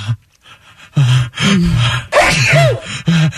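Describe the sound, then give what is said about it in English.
A person acts out their own loud, violent sneeze, building up with several sharp, gasping inhales before the forceful burst, prominent with no other talking. “And I know I have pretty violent sneezes. I don't quietly, you know. Like, yeah. Mine's a whole thing. And there's a buildup.”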